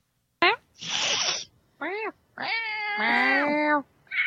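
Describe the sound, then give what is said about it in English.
A person's voice imitates a cat distress call, making a quick mew, a breathy hiss, then several drawn-out, wavering meows, loud with short pauses between them. “I make cat noises to attract my cats when I can't find them. So I make a cat distress call, which is...”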